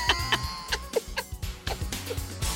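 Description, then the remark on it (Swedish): A person imitates the two-syllable begging call that 3–4-week-old young magpies use toward adult birds, producing a quick series of sharp, raspy chirps, repeated in an uneven rhythm for a few seconds. “Det är så jävla likt. Det är som en skata är i soffan här nu med oss.”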